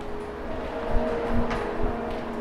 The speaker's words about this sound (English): So this is in the metro now. Oh, there's music playing, lovely.